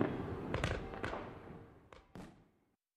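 A dense crackle of New Year's fireworks going off, with several sharp bangs standing out around a continuous rumbling backdrop of more explosions, fading toward the end. No one speaks.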